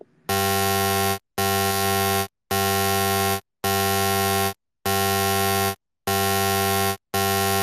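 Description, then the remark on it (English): A loud, harsh electronic buzzer sounds in seven long, steady bursts separated by brief silences, each blast a rich, buzzy tone with strong harmonics and no voices present. “I'm gonna push you over and spank your little butt for buzzing so much.”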